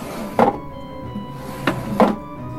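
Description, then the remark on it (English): A wooden chair is shifted into place, brought over for someone to stand on, with three dull knocks, one, then a pause, then two close together, over a faint steady hum with no talking. “Bring that chair over so I can stand on it.”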